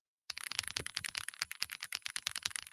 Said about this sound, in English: most keyboards, they're either really quiet or really clackety-clack, you know what I'm saying? This is a thocky one, all right?